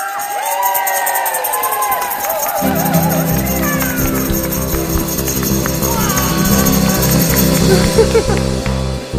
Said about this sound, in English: So after three, want to hear lots of shaky things, and you can cheer and everything as well. So one, two, three.